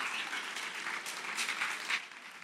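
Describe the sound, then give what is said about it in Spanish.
An audience at an event in Cartagena applauds steadily, a dense wash of many hands clapping at an even, fairly loud level throughout, with no voices standing out. “quiero que le dedicáis un aplauso que se lo merece porque ha hecho un trabajo admirable.”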